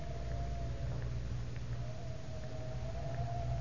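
Howling wind on a cold, windy afternoon at 4 o'clock at the Tower of London: a steady, moaning whistle that wavers and rises slightly, carried over a continuous low rumble, with no voices.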